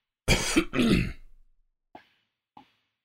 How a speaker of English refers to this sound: Holy, this nigga really had to blow his nose. It must have been like snot dripping.